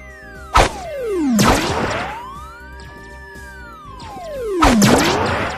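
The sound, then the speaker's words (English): A ball flies up and slams hard into the ceiling and walls three times, with sharp cracking impacts separated by sweeping, rising-and-falling whooshing tones as it flies. No one speaks. “Ball flying up into the ceiling and smashing into the walls as usual.”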